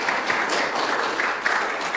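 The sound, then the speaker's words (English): An audience claps steadily for two seconds, a dense, crackling patter of many hands with no pauses and no voices, holding at a moderate, even loudness throughout. “So almost, yeah, you can clap if you want.”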